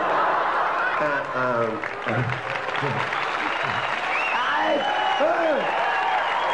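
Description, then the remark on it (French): Steady, dense audience applause fills the whole stretch at an even loudness, with scattered voices, whoops and a little laughter rising through the clapping. “C'est pas la peine d'applaudir.”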